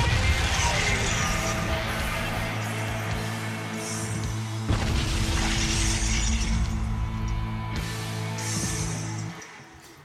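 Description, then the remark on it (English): A loud, chaotic wall of screaming, booming explosions and deep, sustained Godzilla roars, with crashing debris layered throughout, running continuously for about nine seconds before cutting off abruptly. “It was screaming explosions and Godzilla roars.”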